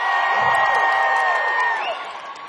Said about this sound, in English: Must be the altitude up there in my screen. Scream up there, let me hear you up there.